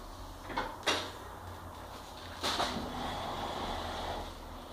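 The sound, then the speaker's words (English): A small wind-up toy pig whirs along, balancing, over a low steady hum, then knocks into a door with a few sharp wooden thumps. No one speaks. “Oh, the pig balanced all the way until it hit the door there.”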